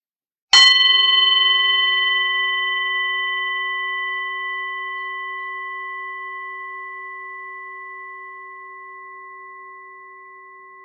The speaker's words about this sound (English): So if we can have the bell again.